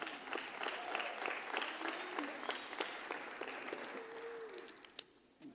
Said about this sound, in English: Give my wife Riley a hand clap tonight.